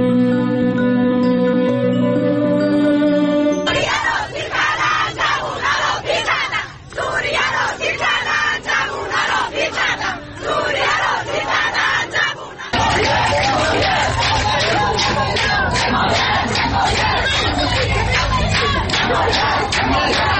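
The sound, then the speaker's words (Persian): A large protest crowd in Iran shouts and chants loudly in rhythmic bursts, women's shouts among a dense roar of many voices, following a few seconds of steady tonal sound and changing abruptly partway through. “در ویدیوهای منتشر شده بر روی شبکه‌های اجتماعی، فریادهای آنها یا در میان جمعیت شنیده می‌شود و یا تاریخ و محل تهیه ویدیو را اعلام می‌کنند.”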